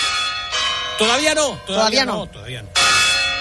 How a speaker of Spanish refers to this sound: Bueno, que se acercan ya, las campanadas, me parece que están empezando vamos. A sonar.